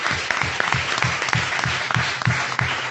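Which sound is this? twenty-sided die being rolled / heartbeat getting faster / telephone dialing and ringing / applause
applause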